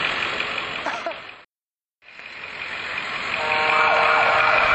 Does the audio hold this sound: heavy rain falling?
no